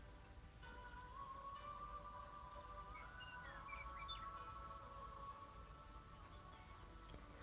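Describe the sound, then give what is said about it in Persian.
Many birds chirp and twitter together against a steady background hush, their thin calls overlapping continuously as a flock flies and circles overhead. “صدای پرنده ها رو بشنوید که به صورت دسته‌ای پرواز می کنند و روی سر شما می چرخند.”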